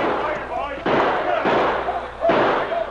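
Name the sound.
gunshots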